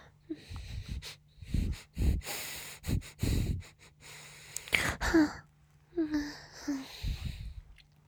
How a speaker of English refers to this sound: And I only want you. Can I sniff you again? Please?